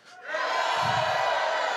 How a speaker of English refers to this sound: But Joshua chapter 6, verse 20, so repeat it with me, okay? So the people shouted. Let me hear a shout.